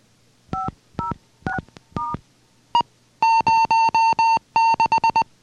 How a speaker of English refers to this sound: The high beep indicated that we took the output high, and the Morse code 06 confirmed which output we specified.